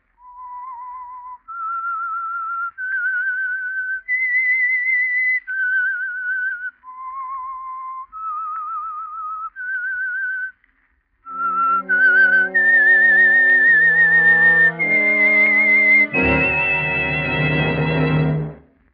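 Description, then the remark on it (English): The whistled theme of the Household Finance Corporation radio program The Whistler: a solo whistled melody of slow, sustained notes with slight vibrato plays clearly and alone. After a brief pause, a full orchestra swells in beneath the continuing whistled tune. “That whistle is your invitation to listen to the Household Finance Corporation program, The Whistler.”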